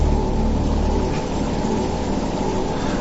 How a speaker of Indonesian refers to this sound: Sekitarnya menjadi hening. Suara itu jadi lebih terdengar jelas. Ya, suara geretan mesin-mesin itu.